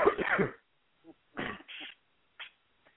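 A harsh cough followed by a few shorter, raspy coughing and throat-clearing bursts, spaced unevenly over a few seconds with no talking.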